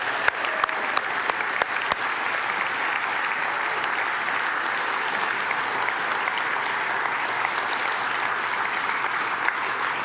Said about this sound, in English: So if you're a graduating high school senior, would you please stand up? Can we have the lights in the out here as well? We got two back there. Let's give them a round of applause.